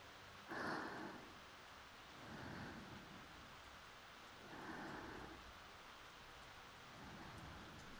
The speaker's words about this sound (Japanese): あれ、虫の声が聞こえない。これは雨が降ってきましたね。大丈夫、軒下に窓があるから雨は入ってきませんよ。